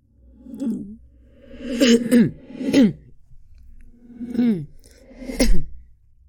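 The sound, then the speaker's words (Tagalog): A voice coughs five times in a loose, uneven series, each cough harsh and throaty with a voiced edge, fairly loud, with short pauses between. “Hala? Inuubo ako?”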